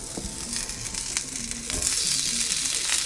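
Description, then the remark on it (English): Food sizzles steadily in a hot cast iron skillet, a bright crackling hiss with occasional pops, growing a bit louder partway through. No one speaks. “You hear that sizzle?”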